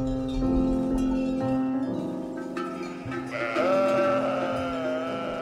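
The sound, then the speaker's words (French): A female goat originally meant to be raised for meat bleats loudly, a long wavering cry that shifts pitch and rises near the end, carrying on almost without pause for several seconds, with no one talking. “En fait, on comptait pas la garder, cette chèvre.”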